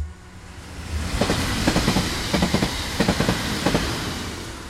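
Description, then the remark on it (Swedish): A New York subway train in 1997, carrying Angelina toward her apartment, rumbles steadily along the rails, its wheels clacking in repeated rhythmic bursts over a continuous low roar, heard from inside the car with no one speaking. “Angelina sitter i tunnelbanan på väg till sin lägenhet.”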